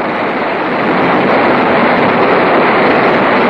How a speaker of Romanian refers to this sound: Iar când nu dispun, regizorul tehnic are miraculoase benzi care fac să cânte privighetori. Să te simți lângă un lac cu broaște sau în apropierea cascadei Niagara.